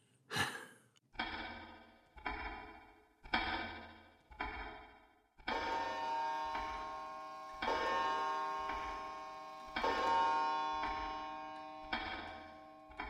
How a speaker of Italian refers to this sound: È notte. Nel corridoio l'orologio batte l'una, poi le due, poi le tre.